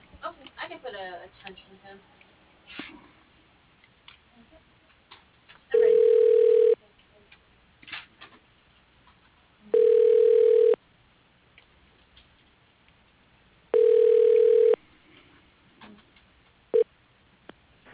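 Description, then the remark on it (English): A telephone ringback tone from a call being transferred to a voicemail: three steady, mid-pitched rings about a second long, evenly spaced by roughly three-second gaps, with a brief start of a fourth, over faint line noise. “Let me transfer you to that.”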